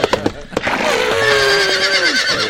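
A horse neighing sound effect: a few short snorting bursts, then a long, shrill, quavering neigh that holds its pitch before sliding down and fading.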